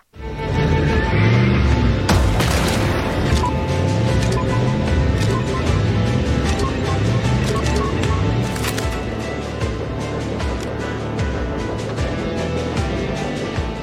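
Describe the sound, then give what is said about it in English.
Dense, steady music from the game Fog Piercer, played when the malfunction card is in hand, with snare drums beating in a quick, repetitive rhythm that chugs like a steam engine, loud and continuous throughout, with no voices. “You have snares playing, and they sound like a little bit of a steam engine chugging, so that you know that sound, that something is up.”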